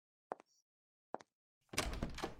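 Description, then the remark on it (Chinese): Footsteps of a senior female schoolmate approaching: two pairs of quick, dull thuds separated by a short pause, followed by a louder burst of broad rustling noise. No one speaks. “而且我听到学姐的脚步声了，估计她是来招呼我请摄影师的。”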